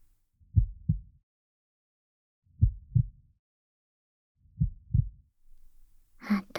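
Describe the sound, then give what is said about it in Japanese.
A mother's slow, pounding heartbeat heard at her chest, thumping low in three evenly spaced double beats, then a soft rustle or breathy sound rises at the very end. “私の心臓の音、ドキドキしてるのが伝わっちゃうね。”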